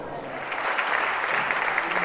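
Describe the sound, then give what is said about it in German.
An audience claps steadily, a dense crackling wash of many hands that swells slightly and holds at a moderate level for about two seconds, with no voices standing out. “Meine Damen und Herren, Applaus für”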